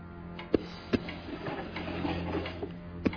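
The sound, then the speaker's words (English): A clock ticks with sharp, evenly spaced clicks, roughly every half second or so, over a low steady hum; the ticks are moderately loud. “It's a clock. I found it last night. It was ticking.”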